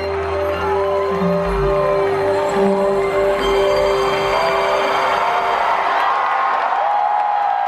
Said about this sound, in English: I had forgotten what applause sounded like, right? It sounds so silly, but it felt, you know, to feel other people's joy in the vibrations of my body.